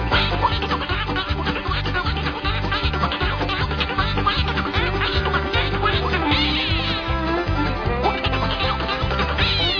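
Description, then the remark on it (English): Nasal duck quacks, made by a person imitating a duck, sound over an upbeat song with a steady thumping beat. The music stays loud throughout. “When you hear me quack, you'll know why everywhere I go, I'm the Duck. Quack it one time.”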